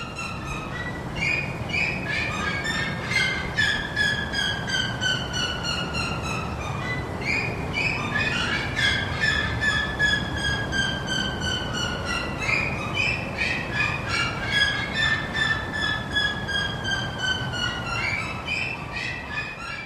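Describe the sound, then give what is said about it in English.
Seriemas at Southwick Zoo calling loudly: rapid series of high, yelping notes that slide downward in pitch, repeated in waves throughout, with no talking. “These unique birds are one of the most vocal residents at Southwick Zoo. Their calls often coincide with the arrival of our field trip guests coming through the group entrance.”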